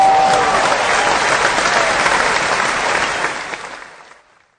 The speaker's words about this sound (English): So shout out to John Lynch as I try and find an applause button so I can actually celebrate this in the proper manner. I'm just going to give you this one.